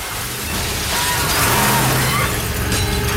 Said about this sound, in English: Approaching the World Bank, the trucks mount the sidewalk and crash straight through the plate glass window.